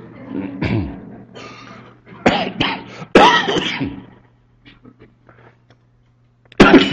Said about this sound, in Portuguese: Bom, tô com um tosse que não vai embora.